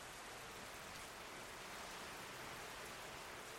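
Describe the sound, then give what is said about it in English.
A steady, even hiss of a passing rain shower, a dense wash of drops with no pauses or shifts in intensity, heard alone at a soft, moderate level. “It's just a passing shower.”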